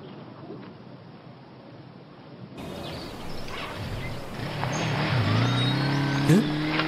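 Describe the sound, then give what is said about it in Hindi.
A motorbike engine rumbles outdoors over steady wind-like noise as someone rides away on it, its drone rising in pitch and growing louder toward the end, ending in a brief revving surge. “वो मुरादी ही था ना जो बाइक लेके चला गया?”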